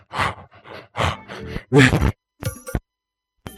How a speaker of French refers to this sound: Voilà, j'ai fait ma gym. Je la fais avec vous. Et alors, j'étais complètement essoufflé.